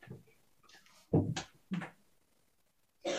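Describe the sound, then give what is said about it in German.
A few abrupt, breathy coughs, two close together and another a moment later, heard in the background against otherwise quiet surroundings. “Betretenes Schweigen und Husten aus dem Hintergrund.”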